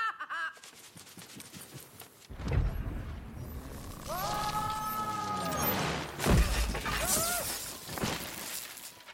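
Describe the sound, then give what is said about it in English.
A loud earthquake crash with rumbling and shattering breaks out suddenly, followed by eerie creaking, whining tones and a second heavy crash of breaking debris, with no talking. “Earthquake.”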